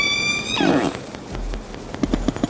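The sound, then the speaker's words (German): Orca (killer whale) vocalizations: a high, harmonic whistle slides for half a second, then breaks into a burst of grunting squeals, followed by a series of sharp, rapid clicks, all watery. “Also Orcas haben ja ganz verschiedene Töne auf Lager.”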